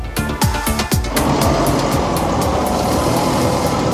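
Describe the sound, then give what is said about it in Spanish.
Heavy excavators in Gaza grind and rumble loudly, with a quick run of sharp metallic clanks at the start before settling into a steady, dense roar of engines and scraping. “Y este es el sonido que nos llega de Gaza, el sonido de algunas excavadoras.”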